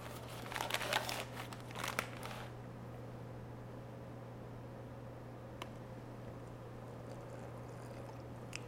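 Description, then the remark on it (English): A lot of powdery kitchen cornstarch, to be mixed with water, pours into a beaker with a soft, gritty rustle that crinkles for about two seconds, then fades, leaving only a steady low electrical hum. “So I'm going to pour in some cornstarch in the beaker, a lot of cornstarch.”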